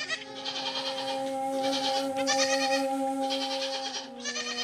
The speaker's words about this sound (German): Tierisch entspannend. Yoga mit Ziegen.